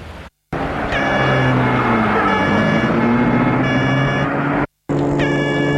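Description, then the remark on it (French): A car rumbles steadily through busy traffic in Paris, with honking horns sounding repeatedly around it. The noise is loud and continuous, broken by two brief silent cuts. “Et la voiture roule dans Paris.”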